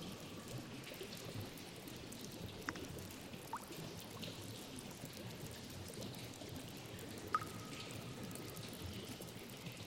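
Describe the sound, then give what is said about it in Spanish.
A waterfall's water rushes and splashes in a steady, unbroken wash of sound at low volume, with a couple of faint, brief bird chirps rising above it now and then. “El sonido del agua te invade.”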